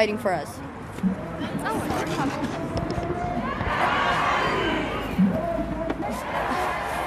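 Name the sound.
protest crowd chanting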